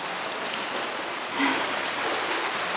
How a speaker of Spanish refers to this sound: una joven se lanza al agua y hace un largo a gran velocidad.